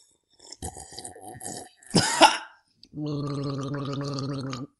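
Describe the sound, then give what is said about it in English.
Someone takes a drink of water: a few wet slurping sips and a sharp gulp, then a steady, buzzing gargle held for nearly two seconds. No one speaks. “sometimes we just pause in the intro and take a drink of water.”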